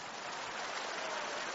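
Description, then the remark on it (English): Dense, steady crowd applause given as praise to the Lord, with no break: a continuous wash of many hands clapping at once, evenly loud from start to finish, with no voices rising above it. “You can't stop that clap right now.”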